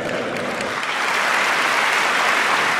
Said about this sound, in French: La foule de députés applaudit et vote à la quasi-unanimité les trois propositions du gouvernement.